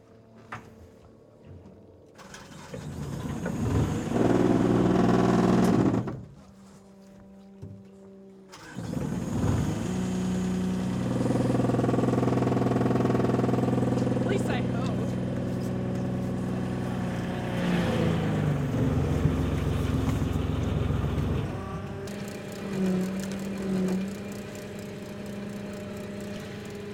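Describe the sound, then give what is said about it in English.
An oyster boat's motor starts and labors, hauling a heavy cage up from the water with a mast and boom setup, its steady mechanical drone shifting in pitch with brief pauses and no one talking. “Yeah, if I could get this cage up, I probably can. I'll show you. This is like a mast and boom set up on the oyster boat.”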